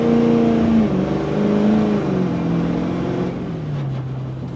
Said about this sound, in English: Goodwin demonstrates how quickly his eco-friendly SUV can do 0 to 60, starting right now.